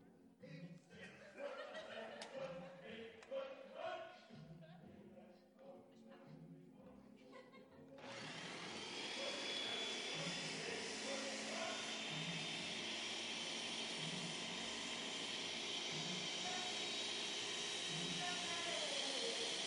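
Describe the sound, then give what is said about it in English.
A voice is heard for several seconds before a blender whirs to life with a sudden, loud, steady roar that runs to the end, the voice faintly continuing beneath it. “Gotta wait for the right time for the blender.”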